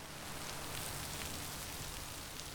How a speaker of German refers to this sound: Nueva Bellavista steht unter Wasser. Die Chocó-Region ist die regenreichste auf dem ganzen Kontinent. Die Chocanos sind längst abgehärtet. Es regnet hier 12.000 Millimeter pro Jahr, dreimal mehr als am Amazonas.